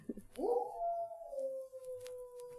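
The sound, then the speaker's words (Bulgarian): A single grey wolf howl rises quickly and then holds a long, steady, mournful note that slowly fades, heard clearly on its own with no talking. “А, сивият вълк е дошъл.”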